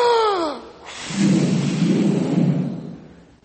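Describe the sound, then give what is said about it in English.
An audience takes a deep breath and exhales hard in unison, blowing out as hard as they can, making a broad, rushing whoosh that swells and holds for about two seconds before fading, just after a short falling vocal tone. “Now that we've practiced our breathing, I need you to take a deep breath and blow it out as hard as you can. All together.”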